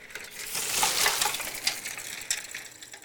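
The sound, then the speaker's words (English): An old bicycle, a circa 1936 model, rattles and clinks as it rolls through a puddle, a hissing splash of water swelling then fading over about three seconds, with birdsong and no voices. “Here's bicycle circa 1936 model passing through a puddle with some birdsong.”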